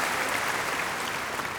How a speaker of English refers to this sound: that was a small applause. All these people, ladies and gentlemen, they work always so hard and they never get applause.